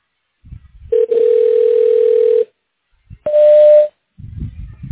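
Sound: voicemail message tone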